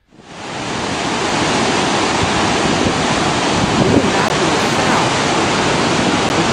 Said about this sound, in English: Generations standing on the shoreline of the Jordan River, the sounds of raging water and the breaking of trees and sticks.